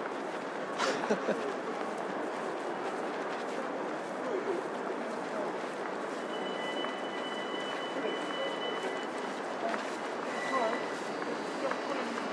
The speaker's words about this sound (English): Excuse me, is this the 3 minutes past train? 3 minutes, yeah.